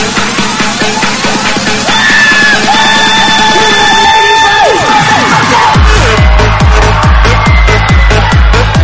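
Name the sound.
crowd screaming and cheering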